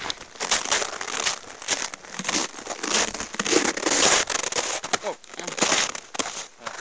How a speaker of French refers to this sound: Là, vous l'entendez, la neige s'écroule sous nos pas. On est tôt le matin, donc il y a encore une fine couche de glace sur la neige qui tient. Et quand elle craque, on s'enfonce d'un coup de 15 cm.